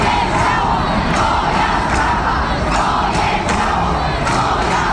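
A large evening protest crowd at Three Crosses Square (plac Trzech Krzyży) in Warsaw, Poland, chants and shouts "Moje ciało, moja sprawa" ("My body, my business") in unison, a dense, loud roar of many voices with rhythmic bursts of yelling recurring across the whole stretch.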